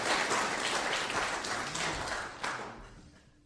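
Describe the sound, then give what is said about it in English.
An audience claps for people who worked hard, in a dense, steady burst of applause that stays loud, then gradually thins and fades toward the end. “Let's give them all the clap that's worked hard for me.”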